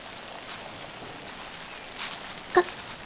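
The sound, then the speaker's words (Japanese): Steady rain patters in a forest, a soft continuous wash of drops with a few louder splashes and one sharp drip near the end, with no voices. “まだ日があるとはいえ、一人でこんな雨の森を歩くのは辛いですから。”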